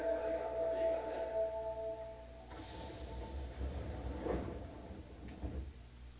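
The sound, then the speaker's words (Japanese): Train doors slide shut with a soft rolling whoosh and a muffled thump, preceded by a steady warning tone, all over a low, constant rumble of the carriage, on a train bound for Fuminosato with Minami-morimachi as the next station. “閉まります。ご注意ください。”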